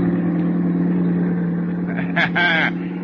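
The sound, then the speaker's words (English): A car engine drones steadily with a low, even hum as the car drives north on the road toward Arroyo Grande after a coffee stop in Santa Barbara. A brief voice cuts in near the end over the continuous motor noise. “Then you're on the road again, roaring north, toward your rendezvous at Arroyo Grande.”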